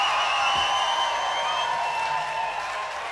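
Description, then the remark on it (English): A festival crowd at the Radio 3 outdoor stage at Charlton Park, Wiltshire, makes a steady wash of cheering and applause, with a few sustained whistle-like tones running through it, fairly loud and even for the whole stretch. “But first, as you can hear, we have a wonderful crowd here at Charlton Park at the Radio 3 stage.”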